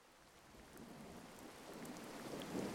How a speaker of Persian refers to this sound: تصور کنید زیر یک سقف و در هوایی با دمای عالی و کاملا راحت هستید. از جایی که نشستید می تونید ببینید که بارش بارون داره شروع می شه.